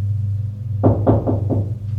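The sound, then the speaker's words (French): A woman knocks four times on a wooden bedroom door in the servants' quarters on the top floor. The knocks are steady and even in rhythm and moderately loud, over a constant low hum. “En robe de chambre blanche, elle frappe à la porte de la chambre.”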